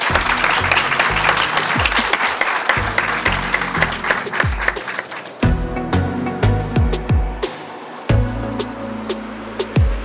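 A crowd applauds with dense, steady clapping for several seconds, then the clapping thins to scattered, sharper claps over a sustained musical backing.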